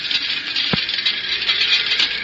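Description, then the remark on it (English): A steady, dense hiss of tiny particles of road dirt and dust pattering against a car's metal body, with one sharper low tap partway through; no voices. “that's the sound of tiny particles of road dirt and dust hitting the body of your car.”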